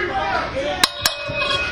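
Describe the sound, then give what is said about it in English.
Two sharp metallic clangs of a ring bell, struck in quick succession and fairly loud, ringing out over a busy crowd murmur, rung to start a no-time-limit last man standing wrestling match. “So Robert Knight calls for the bell here as we get the last man standing match going”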